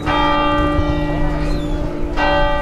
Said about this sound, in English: Bells rang out in front of a packed square. Families, parents with young children, grandparents, all coming together to reflect on yesterday's horror.